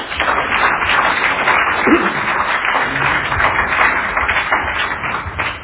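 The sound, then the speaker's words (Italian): An audience claps steadily for several seconds, a dense crackling wash of many hands, loud and sustained throughout with no one speaking over it. “Io lo ringrazio moltissimo, lo salutiamo con un applauso e gli do la parola.”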